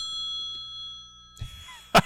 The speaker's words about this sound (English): Hello! Hello! Oh my gosh, I think it works! It does work. Ring in, get on my phone. Did you hear that phone? My goodness, it's a loud phone.